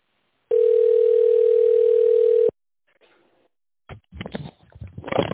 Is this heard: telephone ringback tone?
yes